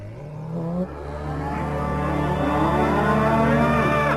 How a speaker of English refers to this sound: But the thing that I loved more than the THX logo were all the variants. There was this one, I'll play a sound clip of it right now, about like a little robot making a cow sound.